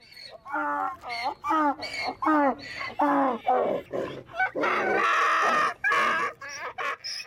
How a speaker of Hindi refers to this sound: बावगढ़ बंध्या के मेला मैदान में गधे ने देर तक अपनी वेदना के स्वर मुखरित किए, गोया वो अपनी बेबसी और बेकदरी पर आंसू बहा रहा हो। लेकिन घोड़ों की इस भीड़ में किसी ने भी गर्दवराज का यह रुद्र नहीं सुना।